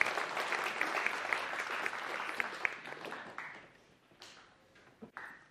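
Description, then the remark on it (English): A church audience applauds during a sermon, with dense, steady clapping that gradually thins out and fades, leaving a few scattered claps near the end. “You can clap for that.”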